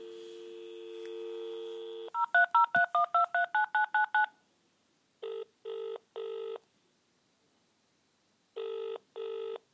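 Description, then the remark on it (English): A steady dial tone gives way to a quick run of about ten keypad dialing beeps as RNIB National Customer Services is phoned, followed by three short ringing bursts, a pause, then two more rings, with no talking. “So this is RNIB customer services now that we're just going to phone.”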